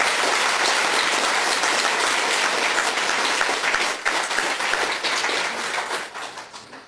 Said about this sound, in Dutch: Dames en heren, mag ik een applaus ook voor